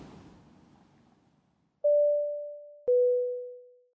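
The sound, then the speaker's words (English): Two clean electronic chime tones, a higher note followed by a slightly lower one, each sustained and fading like an airplane cabin announcement beep, after a brief patch of low rumbling noise. “The little beep noise I use whenever I edit in this podcast. It's the, an airplane announcement beep.”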